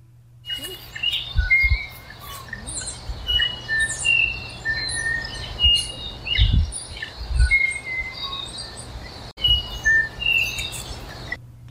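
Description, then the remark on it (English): Tui or bellbird song in New Zealand: bright, varied chirps and fluting whistles repeating throughout, with other birds calling around it and occasional low thumps, no talking. “So this is either a tui or a bellbird.”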